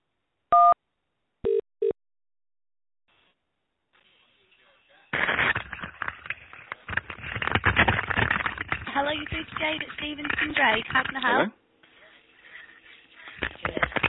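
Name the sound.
telephone keypad button tone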